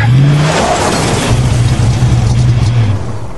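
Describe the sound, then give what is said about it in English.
A car engine roars loudly and steadily as the driver floors the accelerator, its low drone shifting pitch as it revs and accelerates, with broad rushing noise throughout and no voices. “He straightened the wheel and gunned the engine as much as he dared, foot down and headed for empty space.”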